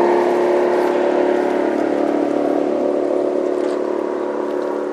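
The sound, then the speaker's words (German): A motorboat engine roars loudly and steadily as the throttle is pushed down and the boat rears up and shoots forward, a sustained revving drone that holds strong throughout and eases only slightly toward the end as the boat speeds away. “Die exotische Kampfschönheit drückt den Gashebel des Motorboots nach unten und das Boot bäumt sich auf und schießt nach vorne.”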